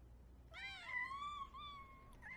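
A cat meows in a long, drawn-out wavering cry that rises and falls, followed by a brief second call, clear over a low background hum.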